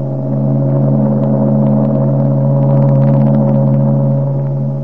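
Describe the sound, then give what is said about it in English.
A great liner's whistle blows one long, steady, deep tone that holds loud and unbroken for about five seconds, its rich harmonics humming over a faint rumbling background. “Do you argue that it's not the idea of escape which makes a ship's whistle romantic”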